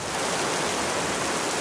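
Steady, dense hiss of rain pouring down, a constant wash of fine droplets with no pauses or changes in loudness, filling the whole short stretch. No voices.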